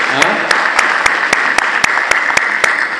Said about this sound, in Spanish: Bueno, de Lima deben haber bastantes, ¿no? A ver, levante la mano. Aplausos, colegas de Lima.